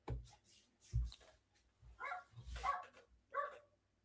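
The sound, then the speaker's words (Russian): A familiar dog barks several times in an uneven series of short, sharp yaps, fairly quiet, with no one talking over it. “Так, это знакомая собачка лает.”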